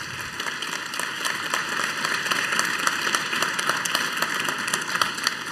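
A crowd applauds steadily, many hands clapping in a dense, even patter that holds at a constant level throughout, with no voices heard.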